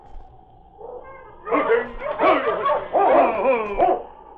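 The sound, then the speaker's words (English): A dog in a barn barks and whimpers, a quick run of loud, whiny yelps and cries that starts after a quiet, low-humming opening and keeps going in uneven bursts. “He recognized the sergeant and the great dog that entered the barn with him.”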